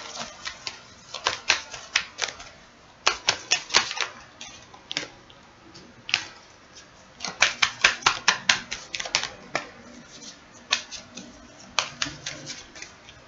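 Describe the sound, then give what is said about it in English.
An original Rider-Waite Tarot deck being shuffled while a video is recorded: crisp, papery snaps and flicks arriving in quick irregular bursts, with short pauses between clusters, and no one speaking. “I love doing my shuffling as I... Yeah, when I record the video.”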